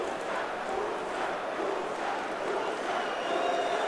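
football crowd chanting

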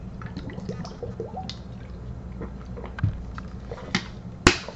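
pouring and drinking water

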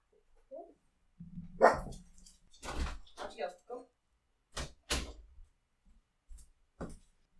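dog barking

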